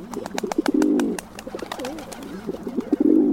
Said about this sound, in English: And a closer look at the dull gray rock pigeon shuffling around a city park might reveal the shifting shades of electric teal and lavender on their throats.